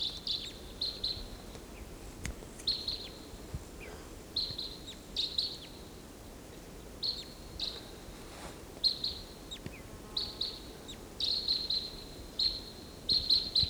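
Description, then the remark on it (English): Two wild birds call back and forth from a treetop in repeated bursts of high, buzzy chirps, overlapping at times, over a low steady background hiss with no talking. “those two wild birds are calling from the treetop, and there's no way of telling which one is which.”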